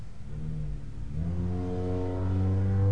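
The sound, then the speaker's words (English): A passing car in street traffic, heard through an open window, its engine rising in pitch as it accelerates and its rumble growing steadily louder across the few seconds, with no voices. “Sorry for the car noises, guys. We got the windows open over here in this room.”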